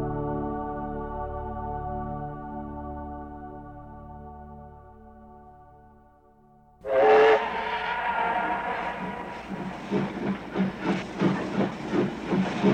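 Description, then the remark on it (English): The 2 o'clock steam train bound for Yorkshire, England: a steam whistle sounds a long, steady harmonic tone that fades, then a loud burst of steam hiss gives way to the train chugging along in a rhythmic, pulsing beat. “We have to catch the 2 o'clock train.”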